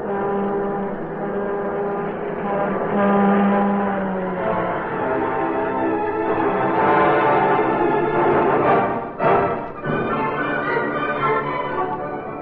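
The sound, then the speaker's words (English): A loud, sustained train horn blares with layered harmonic tones over a steady mechanical rumble as the Sunlight Limited train pulls in on track 10 at a city railroad station, the horn wavering and briefly dipping before sounding again. “Train now arriving on track 10. The Sunlight Limited. Here comes his train now, Doctor.”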